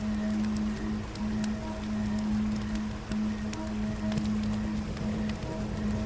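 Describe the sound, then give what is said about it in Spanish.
A river current flows steadily, a continuous rushing wash dotted with small splashes and droplet-like ticks, with a low, even hum running underneath throughout. “y junto a ese sonido de la corriente que fluye constantemente, un alivio en tu interior aparece.”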